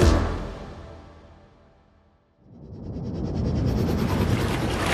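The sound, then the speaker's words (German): Rushing water from a water slide, a broad whooshing wash that fades to near silence midway, then surges back up and keeps streaming steadily and loud. “Oh, ich liebe diese Wasserrutsche.”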